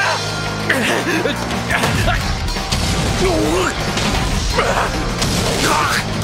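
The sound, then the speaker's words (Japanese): Punches from two boxers, a champion and a challenger, land alternately in a ring: repeated heavy thuds and smacks in a steady back-and-forth rhythm, with whooshing swings and loud grunting voices mixed over a dense, noisy background. “両者のパンチが交互に入る。”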